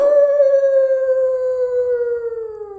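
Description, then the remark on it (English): A single long wolf howl at night, steady and clear with a slowly falling pitch, sustained for nearly three seconds, loud, with no voices present. “Hear that, Your Majesty? My sweet little puppy singing in the night?”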